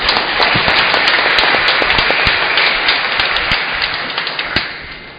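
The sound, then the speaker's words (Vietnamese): A loud round of applause from a parish audience, dense overlapping claps filling the whole clip with a few sharper individual claps standing out, tapering slightly toward the end. No one speaks. “Chúng ta cảm ơn ông cố một tràng vỗ tay thật lớn.”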